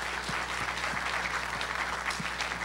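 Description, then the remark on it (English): A church audience applauds its ministers steadily, a dense wash of many hands clapping at a fairly even loudness with no voices standing out, sustained throughout. “So give these guys a round of applause for me.”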